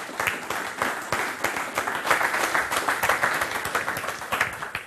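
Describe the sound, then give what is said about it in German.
Sustained applause from an audience after a talk, many hands clapping densely and steadily for about five seconds, moderately loud, with no speech over it. “Den Applaus haben Sie ja schon genossen, oder?”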